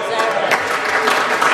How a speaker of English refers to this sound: While there was applause from Mekawhaitere's question, Mr Flavel's answer couldn't get the same reaction